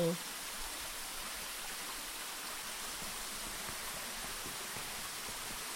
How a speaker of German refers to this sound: Das Wasser, das hier fließt, ist frisch, nehme ich an. Das könnte man trinken, oder? Das ist Quellwasser, also Kluftwasser.